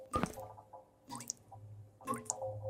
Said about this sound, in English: The sound of something dripping. The soft plink, plink of water hitting a hard surface. I headed into the kitchen, wondering if any of the taps were leaking, but I couldn't find any.